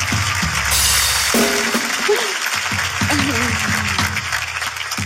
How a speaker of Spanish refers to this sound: De Colombia, un fuerte aplauso para Colombia, nos gusta Colombia.